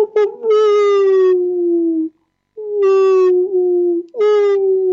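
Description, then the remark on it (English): A human voice imitates a wolf howl in two long, sustained, wavering cries with a brief pause between them, loud with no other sounds around. “You can also do humming, and or even wailing, or like you could do the wolf sound.”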